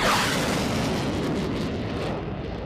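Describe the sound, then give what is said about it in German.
A loud, deep sonic boom from a supersonic jet, rolling out as a broad thunder-like rumble that slowly fades over a few seconds, with no voices. “ein Jagdflugzeug, ein Jet, wie zum Beispiel der Eurofighter, mit Überschallgeschwindigkeit über uns hinwegfliegt, dann hört sich das eher wie Donner an, beziehungsweise es knallt dann manchmal auch so richtig.”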